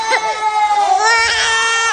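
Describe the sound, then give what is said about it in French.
Young children crying loudly, high wailing sobs rising and falling continuously over two seconds, with several voices overlapping; new pupils crying in a kindergarten on the first day of the school year. “Si, dans les maternelles, c'est le concert de pleurs pour les nouveaux et la joie des retrouvailles pour les anciens”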